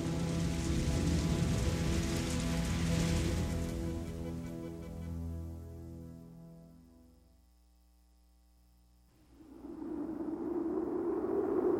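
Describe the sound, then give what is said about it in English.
Steady, heavy rain from a terrible storm hisses alongside a low droning hum, then fades to near silence for a few seconds before the downpour surges back in, loud. “There's a terrible storm.”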